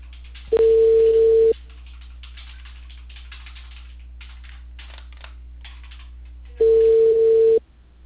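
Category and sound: signal or alarm, phone call ringing unanswered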